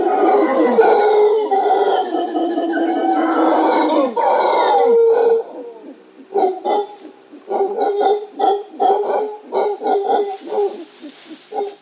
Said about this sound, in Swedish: Men en av dem, rasen är Howling Monkey, den skriker väldigt mycket. Och jag tänkte, jag gick ut och spelade in, vill du höra hur de låter?